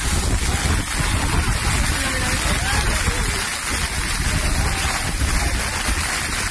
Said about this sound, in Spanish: Bolas de granizo, el viento que hacía que los corredores tuvieran que correr de espaldas en algunos momentos.